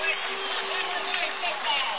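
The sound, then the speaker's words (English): A large football stadium crowd roars steadily for two seconds before kickoff at a 2009 Wintersville football game, a dense wash of many voices heard through a thin, tinny broadcast sound with no clear single speaker. “you hear the crowd, and it's soon to be time, Wintersville 2009.”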